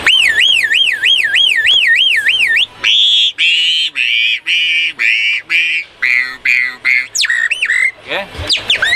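An alarm system sounds loud, first with a rapid warbling siren tone, then switching to a rhythmic series of short, harsh, evenly spaced honking bursts before ending in a brief chirpy flourish.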